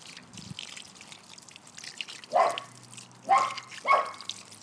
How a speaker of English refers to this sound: Isn't that gorgeous? Gorgeous sound, I think. I find water trickling. Gorgeous.